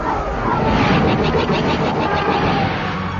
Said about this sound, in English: 8 Soros sub Preybird-class starfighters in tight formation roared in from behind them, raking the Kimura with low-power blaster fire. Then split smoothly in 8 different directions.